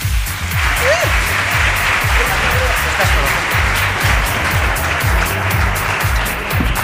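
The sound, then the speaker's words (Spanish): A program audience bursts into loud, sustained applause for a contestant about to play a quiz, a dense crackle of many hands clapping steadily for several seconds without pause. “Un fuerte aplauso.”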